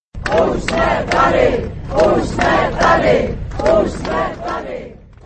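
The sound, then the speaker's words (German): A crowd of at least 250,000 demonstrators on the Letná plain in Prague chants in unison on a Saturday against the government of Andrej Babiš, as a rally called by the association Million Moments for Democracy begins: rhythmic shouted phrases repeating in loud bursts about every second, with a steady roar of many voices underneath. “Usmetade, wir sind da, skandierte die Demonstranten, als die Kundgebung begann.”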